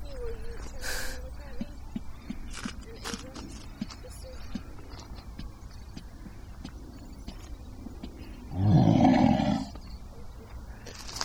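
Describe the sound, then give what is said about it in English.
A single loud, deep growl of a Styracosaurus dinosaur, about a second long, bursts out over a quieter background of faint tapping and low rumbling. “Hear that growl.”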